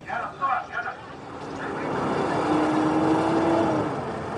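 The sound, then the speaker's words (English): An Israeli military jeep with a Palestinian man stretched out on its bonnet drives past waiting Palestinian ambulances on a winding village road outside Jenin. Its engine swells into a steady, rumbling roar with a faint rising whine, after a few brief indistinct voice sounds at the start. “On a winding village road outside Jenin, an Israeli military jeep drives past waiting Palestinian ambulances.”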